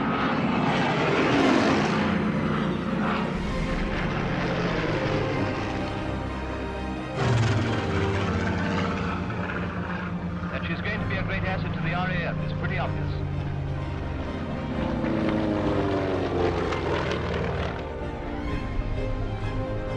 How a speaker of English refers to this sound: In design and construction, she is not unlike the last Snyder Trophy winner. We are flying along in our own plane at about 175. So what speed she is capable of, you may judge from the pace at which she overtakes us.